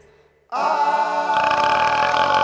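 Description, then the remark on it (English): A long, loud burp erupts suddenly after a brief quiet moment, rumbling steadily for about two seconds and growing rougher and raspier toward the end, with no talking over it. “Then the octopus crawled back in the jar with a burp everyone could hear.”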